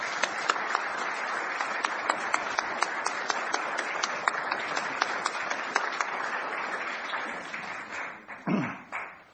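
A crowd in a church sanctuary applauds steadily for several seconds to acknowledge a worship associate's service, a dense wash of many hands clapping with a few sharper claps standing out, before tapering off into scattered claps and a low thump at the end.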